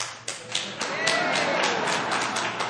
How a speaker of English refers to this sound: That wasn't a guy who initiated the clapping on that one.